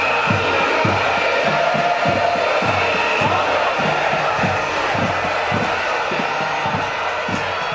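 A large, diverse protest crowd roars and cheers continuously, a dense wall of voices, with a steady rhythmic thumping underneath, like drums or stomping, keeping a regular beat throughout.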